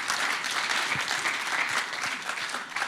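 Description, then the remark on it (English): An audience applauding in the morning to honour their church leaders, in a steady, dense wash of clapping that holds at an even loudness for about three seconds, with no voices rising above it. “And I just want you to really applaud them this morning and honour them this morning for their leadership that they give us.”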